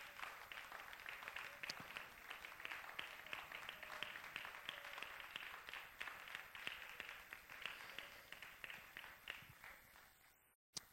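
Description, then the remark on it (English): A large crowd at a religious service applauds the Lord steadily, a dense wash of many hands clapping at once, sustained for several seconds before cutting off abruptly. “Why don't you applaud the Lord for his goodness?”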